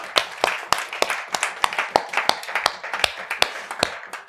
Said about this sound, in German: Ein sehr guter Grund, Jesus dafür mal zu danken. 50 Jahre. Wollen wir mal Applaus geben? Ja, warum nicht, oder?